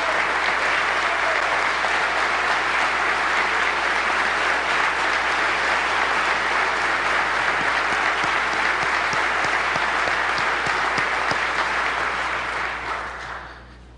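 A large audience claps steadily and loudly for the Jacktown Vector team, a dense wash of many hands that holds for over twelve seconds before tapering off at the end.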